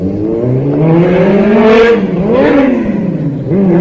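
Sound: motorcycle passing by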